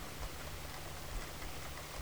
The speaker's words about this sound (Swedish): Känner du varje droppe som möter huden känns olika? Noterar temperaturen. Och med din fulla uppmärksamhet låter du ansiktet ta emot regnet.